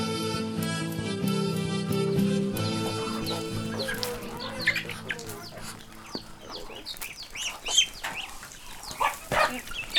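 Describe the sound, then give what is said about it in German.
Chickens on a farm cluck and chatter in a busy cluster of short, bright calls as they are fed in the morning after spending the night in the trees, rising over a steady low tonal hum that fades out after the first few seconds. “Zenaida füttert die Hühner, die die Nacht in den Bäumen verbracht haben”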